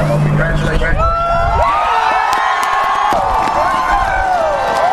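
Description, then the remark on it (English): A large outdoor crowd at Obama's presidential swearing-in ceremony roars a pointed farewell at President Bush with overlapping cheers, shouts and jeering voices, a dense, continuous wall of sound with scattered whistles rising above it throughout. “But before Obama took the stage, President Bush received a pointed farewell from the crowd.”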